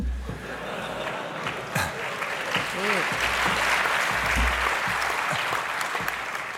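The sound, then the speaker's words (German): Steady crowd applause with dense clapping throughout, a few cheers and a brief voice rising over the noise around the middle. “Ich hab neulich einen SOA gesehen, das war, yay, du hast jetzt alles Security Incident abgearbeitet, Applaus für dich.”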